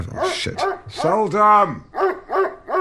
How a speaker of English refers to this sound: So it's just my dog, Seldom.